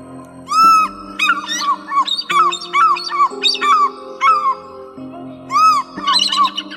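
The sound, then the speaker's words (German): A short instrumental intro jingle for the segment "Jobs Vögel-Geschichten": held chords underneath a bright, bouncy melody of rising-and-falling chirpy tones that mimic birdsong, repeating in a steady rhythm, with no voices. “Das muss ich jetzt hier mal gucken, ob da vielleicht sogar noch ein anderes Intro für Jobs Vögel-Geschichten ist.”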